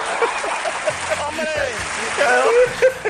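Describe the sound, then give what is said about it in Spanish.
Steady rush of running water with splashing, like a shower spraying continuously, full, with a voice faintly audible beneath the spray. “Empecé a escuchar el run run del agua, el run run del agua, que viene, que viene, que viene, que viene.”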